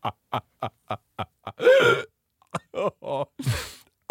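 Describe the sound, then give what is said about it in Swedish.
A voice imitates a raspy, rattling cough: a quick run of short guttural bursts, then a harsh noisy hack and gurgling throat-clearing rasps, fairly loud, with no talking. “Lungorna är inte mot kanon. Går ut och rosslar.”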